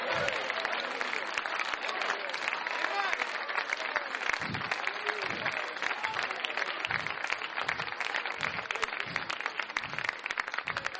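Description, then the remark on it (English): An audience claps loudly and steadily throughout, a dense wash of many hands with no break, while low thumps recur at a regular beat underneath and voices are faintly mixed in. “Oh, don't clap like you're clapping for me.”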